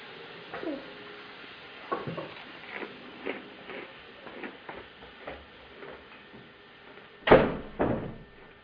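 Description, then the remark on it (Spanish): After a few seconds of quiet clicks and soft knocks, a door is slammed shut hard with a loud bang near the end, followed by a second heavy thud. “Cierra la puerta. Fuerte, fuerte.”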